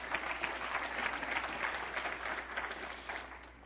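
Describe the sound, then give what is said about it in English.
A church audience claps steadily for a few seconds to give the Lord a clap, a dense, even patter of many hands with no talking over it. “Go ahead and give the Lord a clap on it.”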